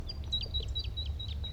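A male bird sings a repeated series of high, thin whistled notes in a steady rhythm from a white pine where a flock of about ten birds sits, with a few other soft chirps mixed in over a low, steady background rumble.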